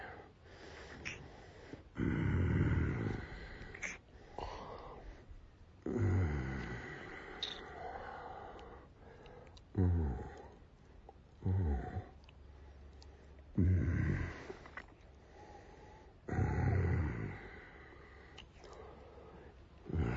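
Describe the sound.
A man growls low and throaty, like a big cat, in about six rumbling bursts separated by short pauses, with no words spoken.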